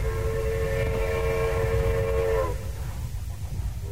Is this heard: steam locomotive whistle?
yes